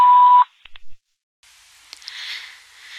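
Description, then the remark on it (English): A single steady answering machine beep, about half a second long, followed by a couple of soft clicks, a brief silence, then faint hissing line noise. No one speaks. “record your name and phone number after the beep.”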